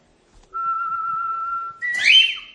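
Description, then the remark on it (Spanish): A parrot whistles part of the FC Barcelona anthem alone, holding one long steady note before breaking into a short, warbling, rising phrase, fairly loud. “El Oro silba el himno del Barça.”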